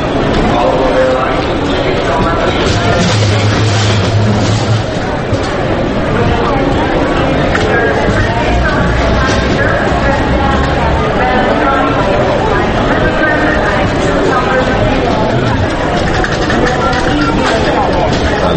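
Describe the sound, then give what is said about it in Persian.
Busy airport terminal ambience: a steady, dense wash of crowd chatter and mingled voices, with a low rumble of passing cars running underneath throughout. “نشستم منتظرم که یه هواپیما یه چیزی بلند شه بشه، اینجا صدای ترمینال هواپیماییه، ماشین اینجا رد میشه، ترمینال هواپیما اینجا چیه؟”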